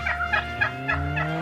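A turkey gobbles in a rapid, warbling series of about five bursts, loud, with no talking over it.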